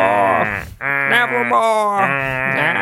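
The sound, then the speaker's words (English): A person imitates a raven's call with three loud, drawn-out, nasal croaks, the first cut short by a brief pause and the last two running almost together. “Is that just what a raven sounds like?”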